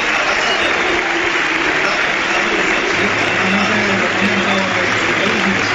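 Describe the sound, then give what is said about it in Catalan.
Sustained standing ovation from a large crowd at the Johan Cruyff stadium, applauding footballer Luis Micruz as he is substituted off; a dense, steady wash of clapping that fills the whole clip at full volume, with a faint low murmur of voices underneath. “Va donar la mà a Moresan, va aplaudint i dempeus bona part del Johan Cruyff per acomiadar l'home del partit, Luis Micruz.”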